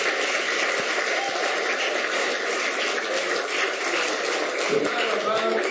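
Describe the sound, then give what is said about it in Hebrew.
A steady, dense wash of clapping from a large crowd, holding an even loudness for several seconds without any break or fade. “אז מגיע לו באמת מחיאות כפיים גדולות וישר כוח.”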